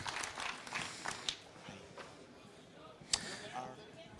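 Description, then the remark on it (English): An audience claps for the next speaker coming on stage, a steady, crackling patter of overlapping hand claps, fairly soft overall, with a few sharper individual claps standing out. No one speaks. “A warm applause for Cola Flash, please.”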